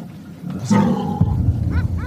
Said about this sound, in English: You hear that dog? That dog's fired up over something.